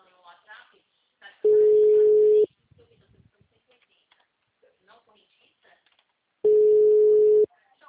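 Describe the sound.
Two loud, steady, low-pitched ringback tones, each lasting about a second and separated by a long pause, as an outgoing phone call rings. Faint voices murmur in the gaps between the tones.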